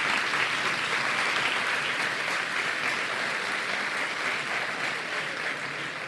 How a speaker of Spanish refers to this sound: Y los nominados son Carne Cruda, Días Extraños y La Contra Crónica. Un aplauso para los nominados.